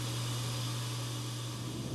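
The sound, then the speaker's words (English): A dishwasher runs steadily, a constant low hum layered under a soft, even whoosh of water and motor noise, moderately quiet and unchanging throughout, with no voices. “The dishwasher.”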